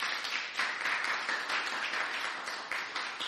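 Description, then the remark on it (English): Sustained applause from an audience at Last Adam Tabernacle for the worship team, a dense wash of many hands clapping steadily at moderate volume for a few seconds, with no voices standing out. “Let's give another big hand clap to the worship team.”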